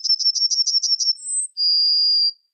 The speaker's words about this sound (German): Das war die Goldammer. Das war die Goldammer.